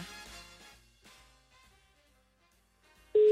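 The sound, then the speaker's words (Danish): Soft, muffled musical sounds give way to a loud, steady telephone ringing tone while calling a woman; it cuts in abruptly near the end and holds as a single pure beep. “Prøv lige at ringe til hende. Prøv lige for at høre.”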